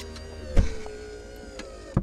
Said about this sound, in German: Das war die Tür von einem Ü-Wagen. Für was steht denn Ü? Weil Ü Garage und Ü Bus. Das steht für Übertragung, also ein Übertragungswagen.